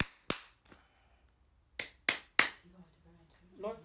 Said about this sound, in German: Gut. Klatsch mal zweimal in die Hände, bitte.